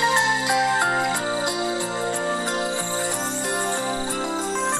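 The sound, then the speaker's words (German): A bright, tinkling bell plays the tree house (Baumhaus) melody steadily, with rich ringing overtones and a flowing sequence of notes that hold and overlap, playing on its own without any talking. “Ich möchte jetzt ganz kurz die Melodie vom Baumhaus hier abspielen. Ja, haben wir letztes Mal nicht gekonnt. Das hier ist die Glocke.”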